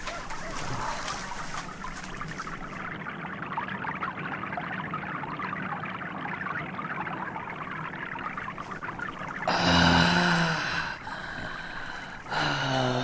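Clear, fresh water pours and trickles steadily for several seconds, followed by loud gulping and gasping sounds as someone drinks it and exhales with relief.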